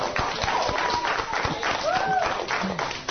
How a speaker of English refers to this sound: And I want you to give yourselves a big clap. Well done, the Abbey School. Well done.